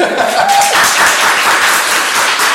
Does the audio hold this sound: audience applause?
yes